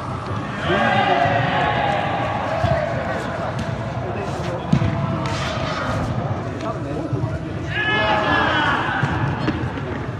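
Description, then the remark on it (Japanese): Busy indoor sports practice as teams warm up before a tournament's 9:30 opening ceremony in an indoor sports facility with three courts: scattered ball bounces and thuds, squeaky sneakers and overlapping voices calling out, a steady lively din with a few sharper impacts. “9時半の開会式前から会場入りして熱心に練習しているチームもありました。”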